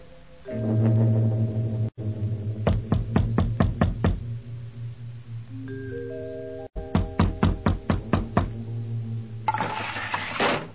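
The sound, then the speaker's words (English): Two bursts of firm, rapid knocking on the door of a small hotel at night, the second longer than the first, over a steady low droning tone, ending in a short rush of noise. “You'll have to knock on the door.”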